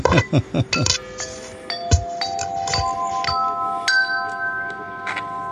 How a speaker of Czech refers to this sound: Do toho zvony v té samé frekvenci.